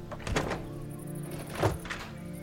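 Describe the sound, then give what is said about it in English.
A man tries the locked front door of a modest house surrounded by trees: two dull rattling thunks a little over a second apart, fairly quiet, with the door holding firm and no voices. “He leans his bike against a low fence and tries the front door.”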